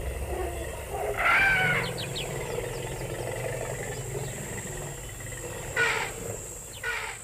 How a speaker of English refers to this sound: This was once marshes and wetland, where you now hear the wail of alarms and the thumping beats of igqom from passing cars. There were once actually elephant calls.